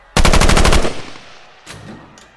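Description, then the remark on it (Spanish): A loud, rapid burst of automatic gunfire, roughly ten shots in under a second, rings out and decays as a teenager shoots at fourth-grade students in a school classroom, followed by two quieter single shots spaced apart. “"It's time to die", anuncia Salvador, mientras dispara sin piedad contra los alumnos del cuarto grado.”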